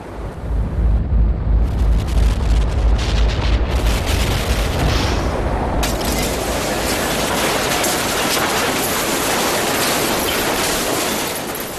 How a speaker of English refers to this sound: A six-foot-high wave thundered into the streets, tossing streetcars into storefront windows, rolling motor cars like dice, and shaking buildings off their foundations.